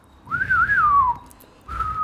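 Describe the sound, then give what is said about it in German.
A person whistles a melodic tune, a long wavering phrase that rises and falls, then a pause and a steady held note, in the style of the whistled theme from Clint Eastwood westerns such as A Fistful of Dollars or The Good, the Bad and the Ugly. “Ich denke gerade an eine Handvoll Dollar oder eine Handvoll Dollar mehr mit Clint Eastwood, wo dieses Pfeifen kommt.”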